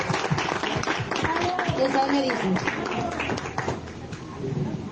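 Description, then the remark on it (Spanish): Steady, dense applause from a crowd for the band at the closing of a patriotic committee's events, Friday 30 September 2022, many hands clapping at once for about five seconds, with voices calling out and murmuring underneath. “Un aplauso a la banda, por favor.”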